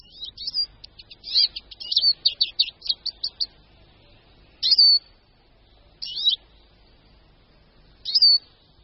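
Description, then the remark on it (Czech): A Eurasian siskin sings a rapid, high twittering run of chirps, then gives three separate wheezy, drawn-out calls spaced by pauses. No one speaks. “Čížkem se nejčastěji setkáváme na podzim a v zimě, a to v porostech olší anebo bříz.”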